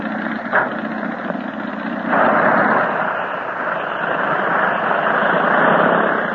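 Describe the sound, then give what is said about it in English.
A steady, droning propeller-plane engine roars, surging louder partway through as it powers up for departure, with no voices over it. “There he goes. So long, Tinka. See you soon. And now, how's about getting to our own plane, huh?”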